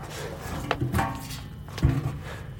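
A tipped-over folding chair is turned right side up: a few wooden knocks and bumps, with a scraping rub between them and a heavier thud as it settles near the end.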